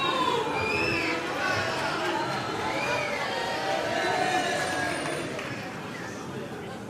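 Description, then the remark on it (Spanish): A theatre audience at the Gran Teatro Falla applauds as the curtain rises on a carnival chirigota in 2025, a dense, steady roar of clapping mixed with cheers and shouted voices, holding loud throughout and easing off slightly near the end. “El aplauso del Gran Teatro Falla, claro que sí.”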